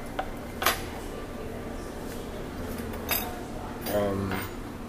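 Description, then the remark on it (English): Plates and cutlery clink at a restaurant table with a plate of fried eggs, fried potatoes, fried sausage and cheese grits. A few sharp bright taps are scattered over several seconds, with a low murmur of voices and a harmonic tone underneath. “I'm sitting in front of a plate of fried eggs and fried potatoes and fried sausage and cheese grits.”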